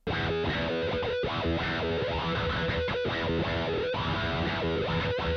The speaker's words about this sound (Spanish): Así suena el wah.